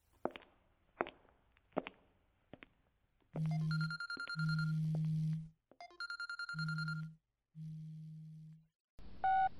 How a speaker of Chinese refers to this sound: 喂，老公啊，这个时候来电话有事儿吗？